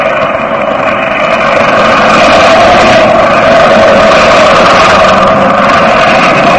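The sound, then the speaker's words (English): The engine of a circus stunt plane, the Wingwalker ship, drones steadily as it comes in to land at an airfield at night under clear skies, a loud, even buzzing roar with layered tones that holds without pause for several seconds, no voices. “That is the other circus plane, Jack. The Wingwalker ship.”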